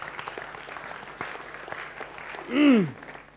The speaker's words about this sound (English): Can we give a round of applause to God?